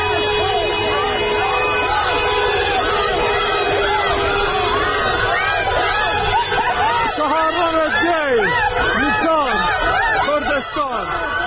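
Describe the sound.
A large crowd of protesters in the city of Bukan chants and shouts slogans together, including "Death to the dictator", at a gathering after 40th-day memorial ceremonies for people killed in recent protests; a loud, continuous wall of many overlapping voices with rising and falling cries throughout.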